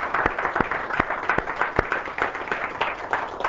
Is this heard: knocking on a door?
no